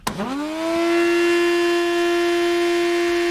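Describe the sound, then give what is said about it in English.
A domestic Hoover vacuum cleaner switches on with a sharp click as its on button is pressed, its motor whine sweeping quickly upward before settling into a loud, steady drone with a high-pitched tonal hum. No voices. “"Struth, this Hoover's really loud," Lunch said, and pulled the plug.”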